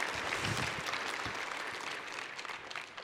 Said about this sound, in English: There you go. Give him a round of applause for me.